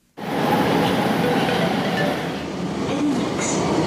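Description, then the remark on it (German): A subway train rumbles loudly and steadily through a metro station in a Brussels suburb, in the middle of an industrial area, a dense roar of wheels and motor with faint metallic squeals, starting abruptly and continuing without pause. “Die U-Bahn-Station Eddy Merckx liegt in einem Brüsseler Vorort, mitten im Gewerbegebiet”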